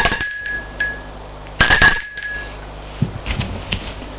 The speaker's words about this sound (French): sonne à la porte de droite.